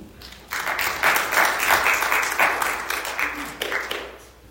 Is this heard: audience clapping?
yes